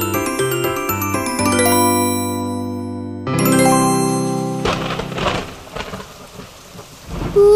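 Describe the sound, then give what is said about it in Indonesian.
A bright chiming melody plays for a few seconds, then gives way to a steady roar of heavy rain, with a loud thunder rumble breaking in at the very end. No one speaks. “Hujannya kok deras sekali ya?”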